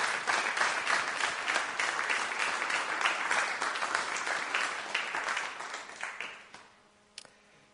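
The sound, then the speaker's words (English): A Bible study audience applauds its speakers steadily with dense, overlapping claps for about six seconds, then the clapping thins out and fades, ending with a single late clap in near silence. “A round of applause for our speakers tonight.”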